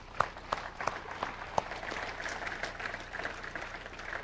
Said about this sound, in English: Let's give the Lord one more round of applause.